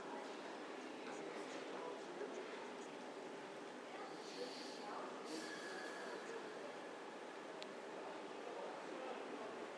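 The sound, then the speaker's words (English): A train pulls into Hammersmith station with a steady rumbling roar, broken by brief high-pitched squeals of brakes on the rails. Muffled voices murmur faintly beneath the noise. “Alright, there's a train coming in now.”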